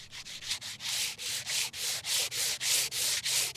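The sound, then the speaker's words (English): Steady, rhythmic rasping of sandpaper attached to a holder, sanded left to right across a headstone about three times a second, each pass a bright, hissy scrape. Fairly loud, with no voices. “I have a sanding paper that's attached to a holder, and what I'm doing is sanding left to right on this.”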